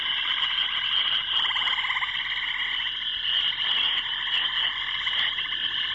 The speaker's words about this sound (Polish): Tak, to rzeczywiście żaby. Żaby, które gdzieś wieczorem koncertują. Rzadko można usłyszeć taki dźwięk.